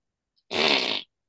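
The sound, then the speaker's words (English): A single loud, buzzing fart-like blurt lasting about half a second, made by a woman blowing into her forearm to impersonate a celebrity's fart, alone with no talking. “… is blowing into her forearm. I have a gift. Trying to make like a squeak noise.”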